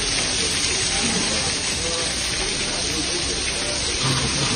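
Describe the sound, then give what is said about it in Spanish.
Steady rain falls in a dense, continuous, loud hiss at the Masters golf tournament in Augusta on its first day, with a faint patter of drops on surfaces and no break throughout. “La lluvia, Ángel García, que eso sí, no ha conseguido retener a los golfistas en esta primera jornada”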